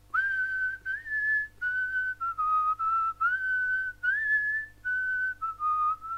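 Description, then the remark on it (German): A little man whistles embarrassedly to himself, a short, meandering tune in a series of brief phrases with small pitch slides and little pauses between them; no voices are heard. “Darauf sagte das Männlein nichts, sondern pfiff nur verlegen.”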